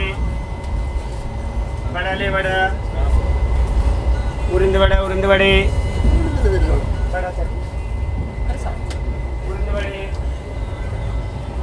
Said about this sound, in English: We are now on a train. This train goes from Irkalatmukutum, also known as Kochi, to Varkala.